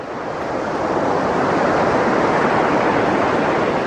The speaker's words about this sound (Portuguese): Barulho só mesmo da água do mar.